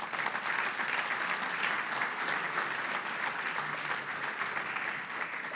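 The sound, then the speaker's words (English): An audience claps steadily for several seconds in response to a software demonstration, a dense, even wash of applause with no voices standing out. “Yes, you can go ahead and clap for that.”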